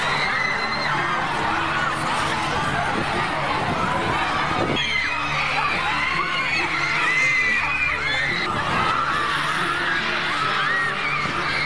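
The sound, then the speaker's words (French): A large crowd of girl fans of a pop singer screams and shrieks continuously as he appears, a dense wall of high-pitched voices with cheering swells, loud throughout. “qui connaissent bien sûr l'intégralité de ses chansons par cœur, mais qui campent aussi devant ses hôtels, hurlent, pleurent et tombent dans les pommes dès qu'il apparaît, protégé par des gardes du corps.”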